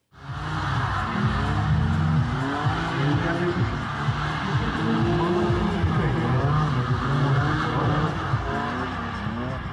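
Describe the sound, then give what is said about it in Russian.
A drifting BMW roars continuously in Lithuanian drifting, its engine revving up and down while tires squeal and skid, loud, with a busy, noisy backdrop for the whole stretch. “Литовский дрифт – это BMW.”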